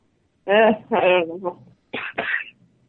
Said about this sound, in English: prayer warriors, you hear that? She's got a cough, prayer warriors.